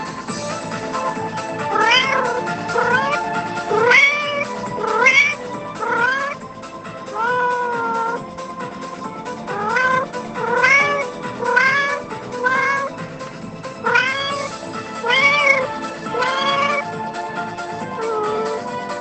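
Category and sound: animal, cat meowing softly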